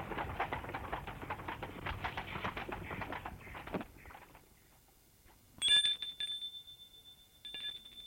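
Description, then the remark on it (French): After the rough rattling clatter of a horse-drawn cab (fiacre) stopping in front of a villa fades away, the villa's doorbell rings: one bright, high metallic ring that lingers, then a second shorter ring a moment later. “L'on a sonné à la porte.”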